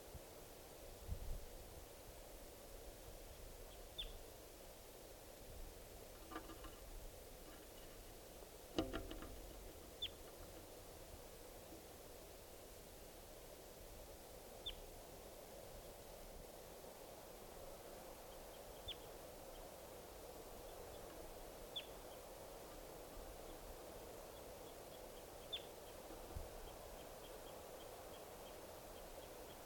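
Wild birds coming down give brief, high flight calls, single faint chirps every few seconds over a steady background hiss, with a soft thump or two and no talking.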